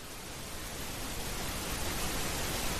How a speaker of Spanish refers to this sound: Y esto no es que se haya ido nuestra emisión, ni es una tormenta de nieve, es ruido rosa.